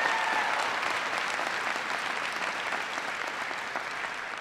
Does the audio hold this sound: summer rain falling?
no